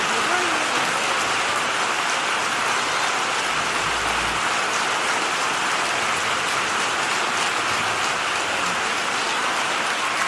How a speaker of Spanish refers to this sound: Qué gran ovación por parte del público que se ha puesto en pie a aplaudir la valentía de esta letra